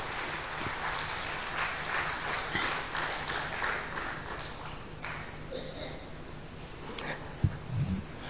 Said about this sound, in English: Dr. Ratan Rathore ji, a big hand of applause for Dr. Ratan Rathore ji.